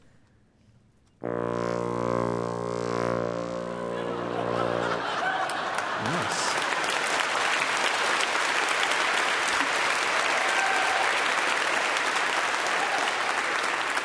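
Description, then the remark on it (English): A lightsaber hum imitated on an instrument by playing its lowest note and waving it around like a stick: a steady, buzzy low drone rich in overtones lasting about four seconds, then loud applause with some laughter and a brief spoken word. “So go ahead and let's hear your lightsaber.”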